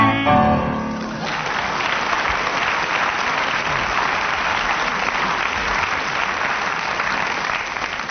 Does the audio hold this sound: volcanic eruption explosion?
no